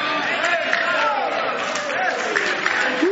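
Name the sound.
audience hand clapping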